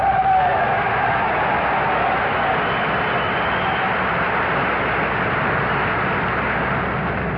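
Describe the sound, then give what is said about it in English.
A steady, loud drone of airplane engines fills the whole stretch, a dense continuous roar that barely varies in level, as if aircraft are passing overhead. “And these planes, so essential to our own safety...”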